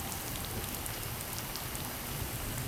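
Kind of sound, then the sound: nature, heavy pouring rain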